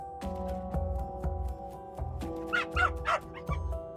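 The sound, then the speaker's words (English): A chatty small dog barks and yips repeatedly indoors in quick, uneven bursts, moderately loud, over a steady low background hum, with a few higher whiny yelps toward the end. “There's a chatty small dog inside, so we head outside to my old Honda hatchback to talk about Lisa.”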